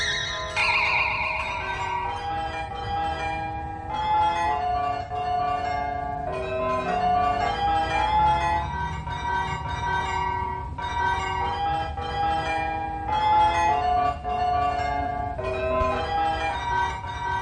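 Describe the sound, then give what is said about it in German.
A famous town hall glockenspiel on the Rathausplatz plays the simple, steady melody of Hänschen klein, each note struck with a bright resonant tone that lingers and overlaps, loud and continuous with no voices. “Zum Beispiel mit Hänschenklein. Ene, mene, miel, spiel Hänschenklein jetzt Glockenspiel.”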